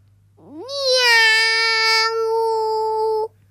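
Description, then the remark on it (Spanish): A child's voice imitates a cat with a single long, drawn-out meow that rises at the start, then holds steady and clear for nearly three seconds before stopping abruptly. “Ahora el gato, a ver.”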